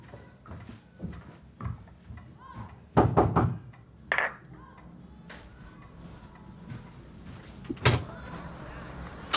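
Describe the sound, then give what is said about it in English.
A quick series of sharp knocks on a door, followed by the clatter and creak of the door being opened, with some faint room noise and movement around it. “I thought I'd knock and inquire after Reuben.”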